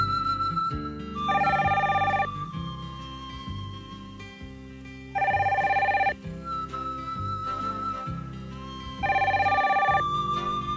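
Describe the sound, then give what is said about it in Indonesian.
A telephone in a living room rings in three evenly spaced bursts, each a bright, warbling two-tone ring about a second long, over a steady bed of soft background music. “Cepat-cepat ia menuju ke ruang tamu dan mengangkat telepon.”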